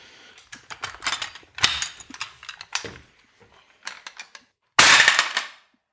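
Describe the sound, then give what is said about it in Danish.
A crossbow is cocked with a run of rapid mechanical clicks and ratcheting, a pause, then fired with one sharp, loud snap that trails off quickly. No one speaks. “Så kan vi da prøve at høre, hvordan det lyder, når sådan en bliver fyret af.”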